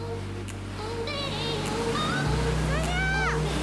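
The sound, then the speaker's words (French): A jet ski's engine drones steadily and loudly as it skims at full speed over small waves on sunlit water, ridden by a woman in a black bikini and vest, while a person speaks over the motor noise. “Un scooter des mers fend les petites vagues.”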